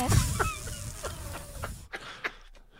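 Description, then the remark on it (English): A voice imitates a soft, weak snake hiss, a breathy airy rush lasting nearly two seconds, followed by a couple of faint clicks in near silence. “It doesn't even make their sound. It just goes. It goes. It sounds like a tyre deflating.”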